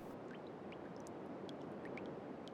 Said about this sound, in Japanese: ほら、ポタポタって垂れてる音聞こえる？はあ、これがあなたの血液、命が 徐々に失われていく音なの。